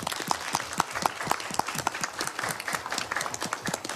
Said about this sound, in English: So not only are they fantastic in what they've done, but also in the way that they deal with it. And perhaps we could applaud.